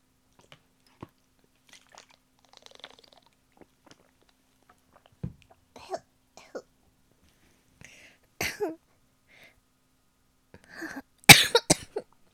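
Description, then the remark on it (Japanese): A few sharp, loud coughs burst out near the end, after a stretch of quiet with faint clicks, crunchy mouth sounds and soft breathy noises; the coughing comes from a very dry throat. “ごめんなさい、咳しちゃった。カラカラしすぎちゃって。”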